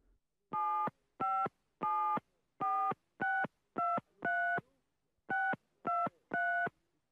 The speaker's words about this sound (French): Il va vers le téléphone et forme le numéro du commissariat.